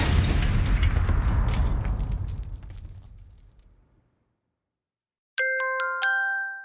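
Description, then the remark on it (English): A loud, booming explosion erupts and its deep rumble slowly fades away over several seconds, followed by a brief silence and then a bright, ringing chime. “Well, that could cause an explosion.”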